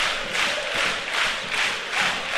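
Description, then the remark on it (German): Football stadium crowd noise at a WSV match, a dense, steady roar of many voices that swells and dips in a rhythmic pulse about every second, like chanting, with no single speaker standing out. “Und hört euch die Stimmung hier an.”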